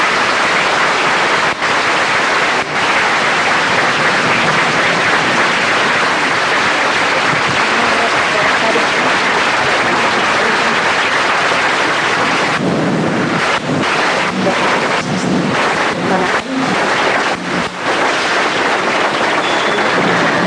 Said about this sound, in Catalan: Bé, doncs aplaudiments i sembla que la gent comença a desfilar.